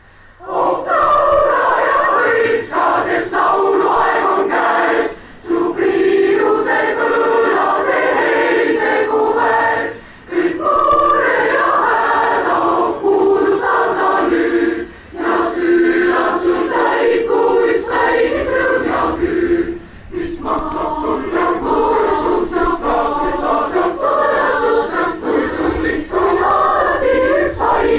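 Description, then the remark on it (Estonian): A huge crowd sings together outdoors at a song festival, opening the stage with a song, a dense wash of many voices with steady phrasing and brief pauses between lines, sustained and loud throughout. “me siis nüüd laulame selle laulu lava avatuks, see laul on loomulikult Oh laula ja hõiska”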